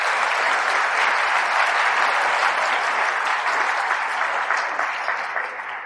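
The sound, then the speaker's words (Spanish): Sustained applause from an audience, given in honour of the Virgin Mary: a dense steady wash of many hands clapping at an even loudness that tapers slightly toward the end, with no voices heard over it. “Dale, sí, dale el aplauso a la Santísima Virgen, dáselo.”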